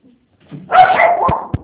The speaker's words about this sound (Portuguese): É, desculpa, como eu estou trabalhando de casa, meus cachorrinhos acabam latindo.